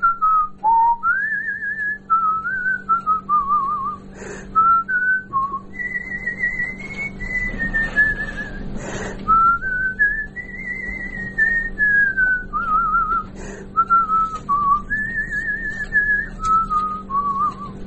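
human body sound, person whistling a tune

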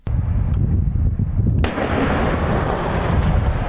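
impact, artillery fire

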